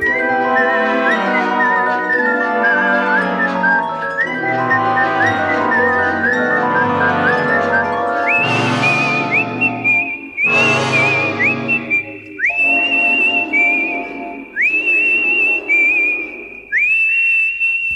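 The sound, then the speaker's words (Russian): A clear whistled melody carries a slow, eerie tune over orchestral backing, with sustained notes that rise sharply into repeated high held tones toward the end; the film tune whistled by Daryl Hannah's character in the hospital, earlier used in the film Twisted Nerve. “а мелодия, которую насвистывает героиня Дэрил Ханны в госпитале, ранее была использована в фильме «Искривленный нерв».”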